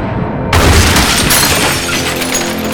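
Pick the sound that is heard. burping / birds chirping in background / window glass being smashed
window glass being smashed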